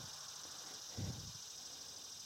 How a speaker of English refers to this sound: Cicadas are dominating. I think all the other birds are just hiding in the heat.